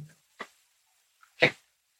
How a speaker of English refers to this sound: There's a cat hovering around out there.